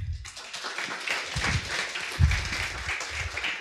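An audience breaks into applause to welcome a speaker giving a talk on Ethereum scaling, a steady wash of many hands clapping at moderate loudness for a few seconds, with no one speaking over it.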